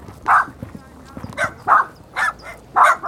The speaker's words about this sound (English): The area is full of yapping dogs and cats sneaking around.